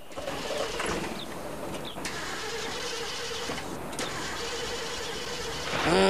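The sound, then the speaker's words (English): A snack shack vehicle's engine rumbles steadily as it trundles over arid, dusty terrain at dusk, with scattered rattles and clunks over the rough ground, growing a bit louder near the end. No one speaks. “It's dusk, and Stephanie's snack shack trundles over an arid, dusty terrain.”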